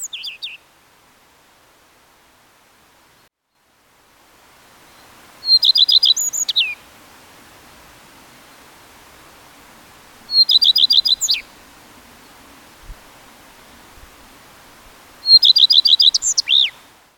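A black redstart sings three short, bright phrases spaced several seconds apart, each a quick scratchy warble, clear over a faint background hum.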